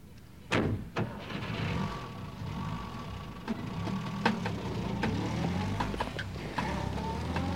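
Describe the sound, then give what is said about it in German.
A taxi idles with a low, steady rumble while its doors thump and click shut, a few sharp knocks and clatters spread across several seconds as three people climb out on Beethoven Street, lined with hotels. “Als sie den Wagen verließen, erstreckte sich vor ihnen ein wahrer Wald aus Hotels.”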